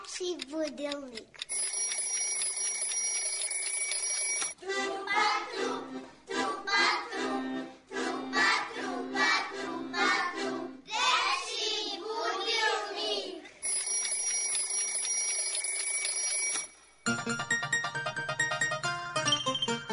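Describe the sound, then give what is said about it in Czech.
On a radio programme from studios in Niš, Belgrade and Novi Sad, a children's wake-up alarm clock bell rings brightly and loudly on 11 November, gives way to a stretch of children's voices, then rings again before a short burst of music. “Da, dečji budilnik će da zazvoni ovog 11. novembra,”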